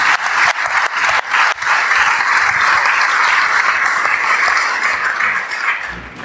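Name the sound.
audience round of applause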